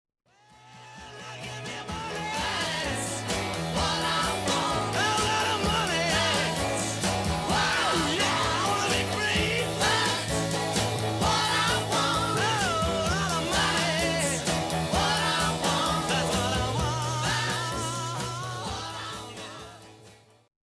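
A loud, driving rock band plays continuously, with a raw, shouted lead vocal straining over dense guitars, bass and drums, fading in at the start and tapering off at the end.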